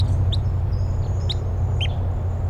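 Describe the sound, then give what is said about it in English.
Three sharp, high-pitched chip calls from wild type 3 crossbills flying over, spaced about a second apart, over a steady low rumble and a faint thin high whine. “Recording, I hear type 3 crossbills, wild ones flying over.”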